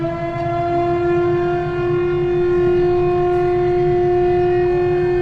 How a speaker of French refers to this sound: Je suis chargé de la sirène à la mairie centrale de Bobo Dioulasso. À 6h30, à 12h30, à 14h30, à 17h30, je sonne pour montrer aux gens que à 6h30, il est l'heure, préparez-vous pour venir au service.